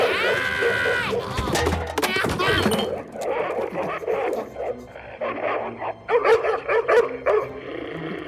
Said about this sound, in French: À présent, voyons comment reconnaître l'humeur de son chien en écoutant ses aboiements.